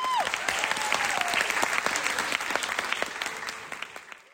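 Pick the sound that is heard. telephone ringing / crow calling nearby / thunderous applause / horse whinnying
thunderous applause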